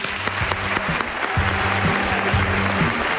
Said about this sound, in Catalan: Som al suplement, som a Catalunya Ràdio, en directe des del Gran Teatre del Liceu, ple de gom a gom. Un fort aplaudiment, que es noti.